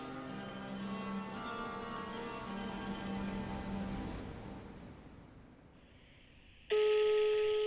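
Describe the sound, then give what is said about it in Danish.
Telephone tones as someone calls their mother: a steady electronic hum fades out, then after a short quiet gap a loud, sustained phone tone cuts in abruptly and holds to the end, clear with no talking. “Jeg ringer til min mor”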